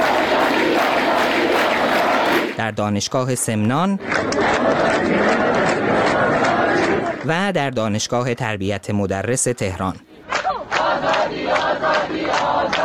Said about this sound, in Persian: و آزادی در دانشگاه فردوسی مشهد هم فریاد زده می شد.